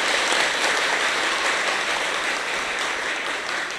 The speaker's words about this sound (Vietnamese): Nếu quý vị tin vào học thuyết chết không phải là hết và quả phúc sẽ trổ trên nền tảng của gieo nhân phúc, ở đây là mối quan hệ hiến mô tạng, thì xin quý vị hãy cho một tràng vỗ tay thật lớn để cam kết và phát nguyện chung.